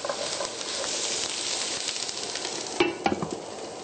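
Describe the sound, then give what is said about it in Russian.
Vegan sausages fry in vegetable oil in a frying pan with a steady, dense crackling hiss, broken near the end by a couple of sharp utensil scrapes or clinks against the pan. No one speaks. “Когда веганские сосиски поджарились, можно добавить брокколи. И тушим пару минут.”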